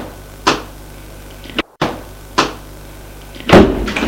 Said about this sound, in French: La porte s'ouvre.